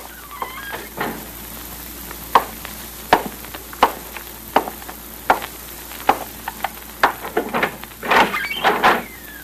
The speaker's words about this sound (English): You can slip out the other door after he comes in here. Close the door quietly.